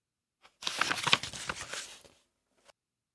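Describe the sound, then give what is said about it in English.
Pages of the book Make a Rainbow Fish being flipped, a dry papery rustle lasting about a second and a half, framed by a faint tap before and another after, with no voices. “Turn to the beginning.”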